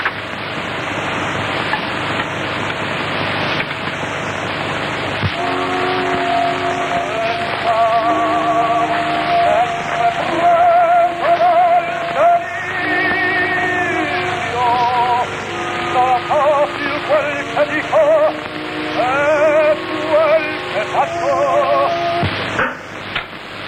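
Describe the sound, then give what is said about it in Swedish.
A 1905 gramophone plays an opera record recorded in 1905: a few seconds of steady hiss and crackle, then a tenor sings with wide vibrato over thin accompaniment, all under constant surface noise. “Skivan är inspelad redan år 1905 och jag ska nu låta er höra några takter av den på en grammofon av samma årgång.”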